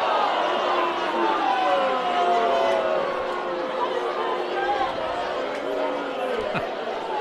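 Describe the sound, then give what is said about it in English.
A stadium crowd roars with a steady wash of low, drawn-out boos over dense chatter, the sound holding loud and continuous for several seconds before easing slightly. Baseball fans are booing a fellow fan for not making the play on a foul ball that landed in the seats on the third base side. “Fans booing their fellow fan for not making the play on the foul ball.”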